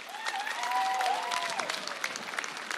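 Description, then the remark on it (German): Sustained audience applause for the performer playing Mozart and the musicians of the MDR Symphony Orchestra and MDR Radio Choir, a dense, steady patter of many hands clapping, with a faint whistle rising briefly above it. “Ein herzliches Dankeschön den Musikern des MDR Sinfonieorchesters, den Musikern des MDR Rundfunkchores und einen besonderen Applaus für unseren Mozart”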